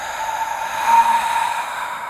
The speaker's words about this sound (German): Wenn wir ausatmen, atmen wir laut und hörbar, sodass wenn nebenan im Zimmer jemand ist, dass er uns hört.